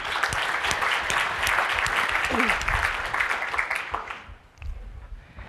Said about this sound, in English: So one round of applause for the steering committee